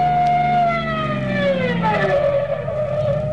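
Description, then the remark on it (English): A police car siren wails loudly over the roar of a speeding car engine, its tone gliding steadily downward, as police chase a car through heavy traffic. “Here they come. It's cops, all right.”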